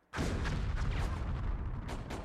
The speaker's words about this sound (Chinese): 听到隐约的炮声，心情沉重。